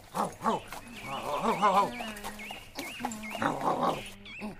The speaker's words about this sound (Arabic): توقف أيها الحمار، إنه صوت نباح كلب ضعيف.